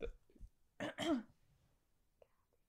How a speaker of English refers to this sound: I have to burp. Hold on. That was really bad timing.